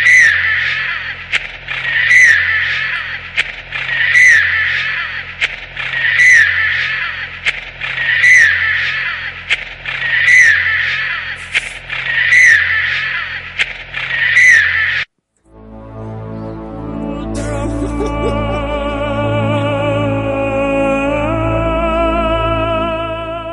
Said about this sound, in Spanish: Yo ahí escucho no un grito, sino un llanto superpuestos. Yo escucho el grito de un bebé. De un bebé y otro grito también, pero no sé si... Un gato pisado. Un gato pisado.